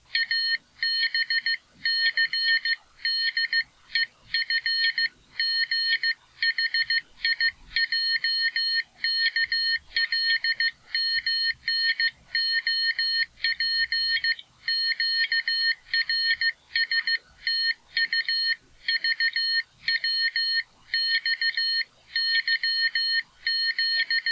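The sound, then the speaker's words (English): Morse code tones: a loud, high-pitched electronic beep keyed rapidly on and off in short and long bursts, with brief irregular gaps, running continuously with no voices. “No, this isn't a national emergency and your radio hasn't broken. That was just Morse code.”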